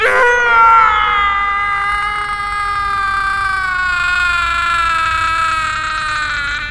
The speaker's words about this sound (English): last scream made the gods very happy. That shriek lingers in my thoughts, echoing through every moment of my life.